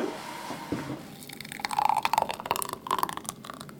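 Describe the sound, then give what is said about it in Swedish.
A thick spinach, pear and pineapple smoothie glugs and splatters as it pours into a glass, with wet, irregular plops and drips, and no one speaking. “Det riktigt hörs att det är ganska tjockflytande.”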